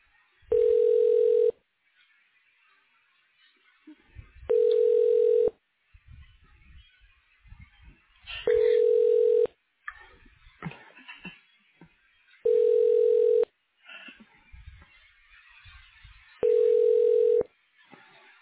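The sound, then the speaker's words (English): Telephone ringback tone sounds five times as a call is transferred to an extension at Dr. Terry Thomas's office, each steady electronic ring lasting over a second, evenly spaced about four seconds apart, loud and clear with faint line noise in the gaps. “Please hold while I try that extension.”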